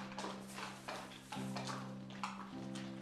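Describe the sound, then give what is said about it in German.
Donkey foal hooves clip-clop in a steady, unhurried rhythm on a hard road, with a low continuous hum underneath and no voices. “Sein Jünger haben gerade einen Eselsfohlen geholt.”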